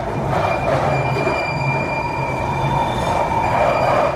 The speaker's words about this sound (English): to have a little hunt online to see if I can find an audio recording that someone's made of, like, the screeches of the tube. Should be easy to find. But just to give you an example of what that sounds like, I'm going to insert the clip right here.